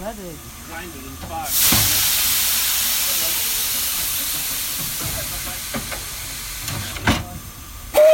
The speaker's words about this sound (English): Are we ready for a toot-toot of this train? Yeah. Yeah? Yeah. We're ready?